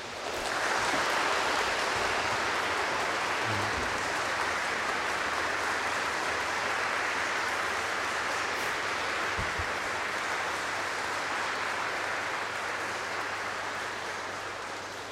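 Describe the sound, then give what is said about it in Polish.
Sustained audience applause for the performers after a concert fills the whole stretch, a dense steady roar of many hands clapping at an even loudness, with no talking over it, easing slightly toward the end. “Jeszcze raz gromkie brawa dla nich.”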